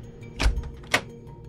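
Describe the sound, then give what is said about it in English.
A door opens with two quick sounds, a dull clunk of the latch followed half a second later by a sharper knock as it swings. Both are moderately loud, with no voices. “The next day, the king opens the door.”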